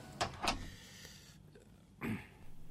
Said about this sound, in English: Shut the door and take a seat, please. Shutting the door. I hate shutting the door. Shutting the door is for people in trouble.